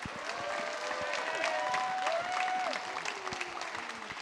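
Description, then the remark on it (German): Steady audience applause for Anne Helm as she is introduced at a voice actor event, a dense wash of many hands clapping at a constant level, with a few voices faintly calling out over it throughout. “Bitte ganz, ganz großen Applaus für Anne Helm.”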